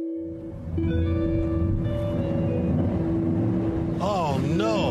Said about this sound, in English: No, that's my old Chevy.